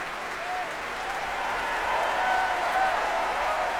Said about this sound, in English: That's the principal horn player, David McClenahan, getting a rousing cheer here.